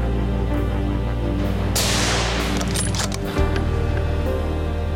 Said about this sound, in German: Mit gutem Schuss bricht das Alttier nach einigen Metern vor der Deckung zusammen.